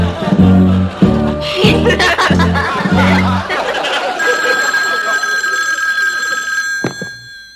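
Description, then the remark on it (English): A telephone rings on an outgoing call in several quick, regular bursts, loud, then gives way to a steady, high electronic tone that lingers before a faint click near the end. “This is gonna be the most important phone call I've ever made in my whole entire life.”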